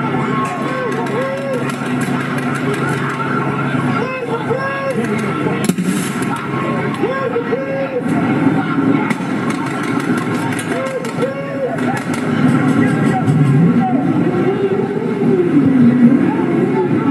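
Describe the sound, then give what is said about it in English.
A crowd of demonstrators shouts and chants steadily while sharp bangs burst out a few times as police and sheriff officers in riot gear fire tear gas and rubber bullets into the crowd, with the loud clamor of voices swelling toward the end. “Police and sheriff officers in riot gear fired tear gas and rubber bullets into the crowd. Here's what it sounded like.”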